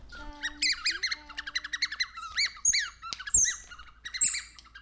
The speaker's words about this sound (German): Also wir haben zum Beispiel hier Vögel.